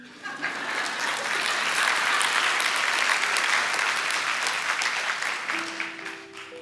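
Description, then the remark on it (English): A large audience applauds steadily about money, a dense wash of many hands clapping that holds for several seconds before tapering slightly at the end. “You can clap, it's okay.”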